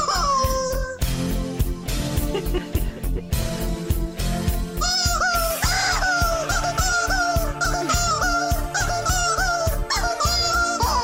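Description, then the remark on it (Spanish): A chicken squawks loudly and repeatedly in rhythm with an upbeat song, its harsh clucking cries riding over a steady thumping beat as if singing along. “Es un pollo, es un pollo.”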